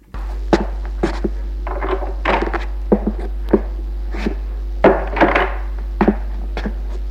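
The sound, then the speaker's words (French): A door is pushed shut with a solid wooden thunk, surrounded by several sharper knocks and rattles spread over a few seconds, all above a steady low electrical hum. “Il ferme la porte.”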